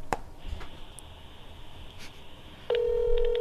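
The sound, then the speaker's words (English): A phone call to the restaurant Fine Hair Patio, ringing through a handset held up for others to hear: a thin, steady high tone over faint background noise, then a louder, lower, buzzing ring tone that holds steadily to the end. “How do you guys hear it? You're going to hold it up to the...”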